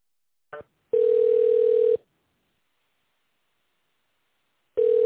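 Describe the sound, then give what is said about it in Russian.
A telephone ringback tone while waiting for an operator on a call to the company NetLab: a steady mid-pitched hum lasts about a second, then a long silence before it starts again, with a short blip just before the first ring. No one speaks. “Пожалуйста, наберите добавочный номер в тоновом режиме или дождитесь ответа оператора.”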